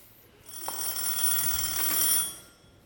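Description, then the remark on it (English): A shoe phone rings in a single sustained burst of bright, trilling bell tone, lasting about two seconds before fading, moderately loud with no voices over it. “Ah, yes, my shoe phone.”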